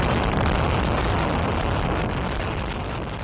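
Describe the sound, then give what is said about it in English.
A heavy, sustained roar of the implosion demolition of the Tropicana Casino in Las Vegas, set off with fireworks, loud and rumbling with dense crackling noise that fades only slightly over a few seconds; no voices are heard. “The structure was imploded with a drone show and fireworks.”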